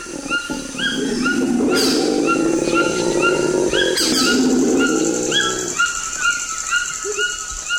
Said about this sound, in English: And the growl of a howler monkey.